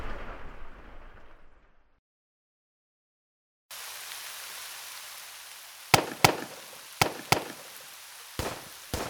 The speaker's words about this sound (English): those aren't pings. That's pistol fire. Well, they certainly sounded like shots to me.